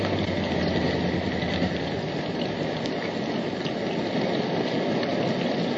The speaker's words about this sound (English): Well, the rain is monotonous, but the silence is worse.